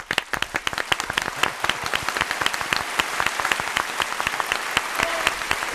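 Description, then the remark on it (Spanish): Steady applause, many hands clapping in a dense, continuous patter that stays fairly loud throughout, with no voices standing out, given to Germany's commitment to barrier-free tourism. “Sin duda, el aplauso del día.”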